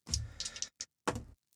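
Two six-sided dice (2d6) clatter and tumble across a hard surface: a longer rattling roll, a sharp single click, then a second burst of tumbling and a faint final tick, landing on a 4 and a 5. No voices.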